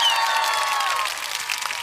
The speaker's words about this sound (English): Hey, you guys hear me? Start cheering now.